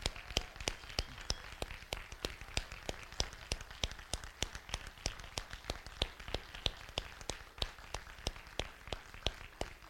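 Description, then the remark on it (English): A round of applause for church children's ministry volunteers, with sharp, crisp claps arriving in a fairly steady rhythm of about three per second, sounding like a small group clapping at moderate volume for ten seconds, with no talking over it. “And could we just give them a round of applause?”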